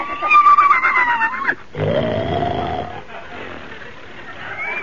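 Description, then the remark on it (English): A horse snoring loudly while asleep: a higher, wavering tonal sound, then a drawn-out rasping snore that trails off into a softer, breathy rumble. “Doggone, he's asleep again.”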